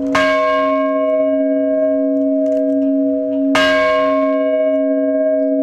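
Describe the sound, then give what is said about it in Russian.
An old ship's bell is struck three times by Metropolitan Vladimir, following naval tradition, at a chapel of Saint Nicholas on the grounds of a military unit; its loud, clear metallic tone rings on with a long sustain before each further strike. No voices accompany it. “Там владыка Владимир по морской традиции трижды ударил в старинный колокол.”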